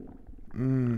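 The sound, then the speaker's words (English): A hungry stomach gurgles with soft, low bubbling pops, then breaks into a long, loud, droning growl that holds a steady low pitch to the end. “As much as I enjoy eating, I also really enjoy hearing the sounds of my belly gurgle and growl when it's hungry.”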